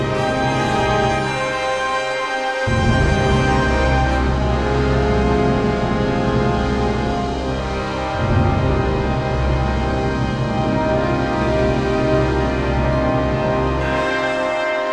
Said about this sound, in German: Wieder Salve Regina, wer genau hingehört hat.